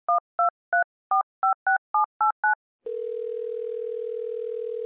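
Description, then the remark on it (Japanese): A quick run of nine DTMF keypad beeps as a number is dialed from the stage of Jet Radio, followed by a steady, continuous telephone tone for an outgoing call, clear with no voices. “はい、再びステージから最後の方にお電話しましょう。”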